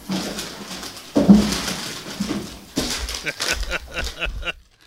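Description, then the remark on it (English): A snack packet crinkles and rustles in bursts of dry, crackly noise, with a run of sharp little crackles toward the end before it stops. No voices. “When you get the packet, it sounds like a cartoon sound effect.”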